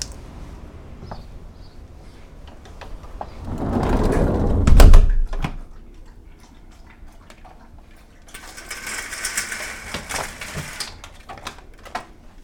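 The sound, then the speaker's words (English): Handled sounds: a low rumbling slide ending in a solid thud, then a few seconds of bright rattling and clattering as blinds are pulled closed, with scattered clicks of a door being secured. “Pull the blinds closed. And secure the door.”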